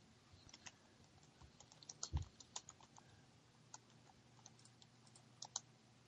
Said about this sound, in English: Dead air. Are you listening to me type or something?